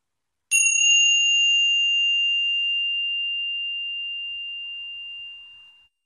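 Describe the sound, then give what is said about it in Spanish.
A single gong strike rings out with a bright, pure metallic tone, sustaining clearly and fading slowly into silence over several seconds, with no voices, as an exercise comes to an end. “Mientras acaba el ejercicio, escucha el sonido del gong hasta diluirse de nuevo en el silencio.”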